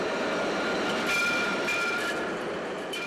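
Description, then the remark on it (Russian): A tram or train rolls along its rails, a loud, steady rumble with thin metallic wheel squeal whining over it for the whole few seconds, no voices. “Израильские власти решили пустить по территории женского монастыря трамвайные пути.”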